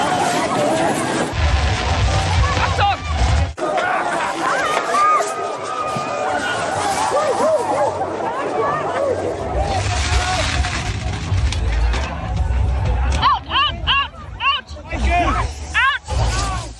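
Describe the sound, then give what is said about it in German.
A single sharp firecracker bang cracks out early over the steady roar of a crowd at a burning-bull festival, whose loud chatter and shouting carry on throughout, with a few brief clattering bursts near the end. “Okay, das klang schon mal, also man hat den Feuerwerkskörper gehört, ne?”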